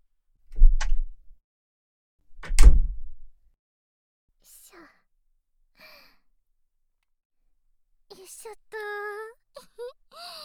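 Two heavy car door thumps about two seconds apart as a hitchhiker gets into the passenger seat of a car, then quiet rustling as they settle into the seat, ending with a short breathy vocal sigh.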